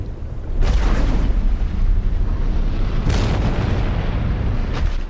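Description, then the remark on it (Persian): An underwater volcano eruption: a loud, deep, continuous rumbling roar, broken by three sudden bursting surges that flare up and subside, with no voices. “آتش فشان زیرابی.”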